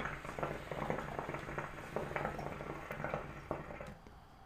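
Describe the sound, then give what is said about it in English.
Steady, gurgling water bubbling from a hookah being smoked, a continuous churning burble with small pops and splashes, moderately loud, easing off near the end. “I had to hit my hookah.”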